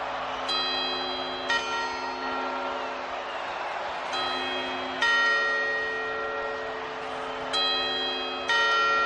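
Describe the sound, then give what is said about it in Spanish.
The Puerta del Sol clock tower bell chimes repeatedly, striking in loose pairs with long ringing tones that overlap, heard against a steady background hum of an outdoor crowd. “Y que nos ha contado este relojero que lleva 26 años poniéndolo todo a punto para que no fallen las campanadas, que bueno, que está deseando que vuelva al público porque el año pasado se le echó mucho de menos.”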